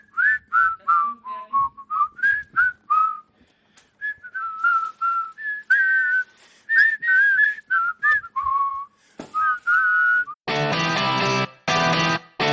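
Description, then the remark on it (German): Someone whistles a lively tune of many short, quick notes, clear, then the melody gives way to a few loud, harsh, buzzy bursts at the end. “Was darf man niemals machen hinter der Bühne? Pfeifen!”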